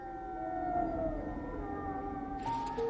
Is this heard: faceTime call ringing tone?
no